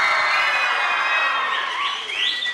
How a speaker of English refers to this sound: Is there normally cheering in assembly?